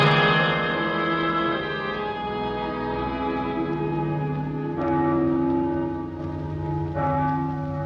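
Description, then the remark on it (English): Church bells ring out loudly for people who have died, with a rich, sustained resonance, fresh strikes at intervals blending into a continuous wash of overlapping tones and no voices. “Mama, the bells are ringing again.”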